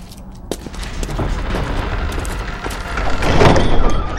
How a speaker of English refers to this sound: As soon as the door closed behind Tensor, Gareth turned to Vordmeister Dada.